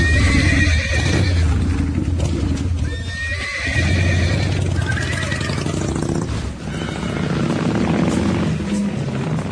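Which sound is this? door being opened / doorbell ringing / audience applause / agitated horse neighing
agitated horse neighing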